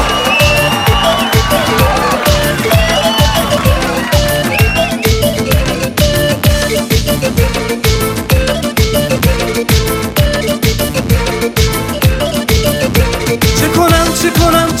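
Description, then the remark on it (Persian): A crowd screams and whistles over loud, driving music with a steady pounding beat, the shrill cheers most noticeable in the opening seconds before blending into the continuous din. “صدای جیغ و سوت ها.”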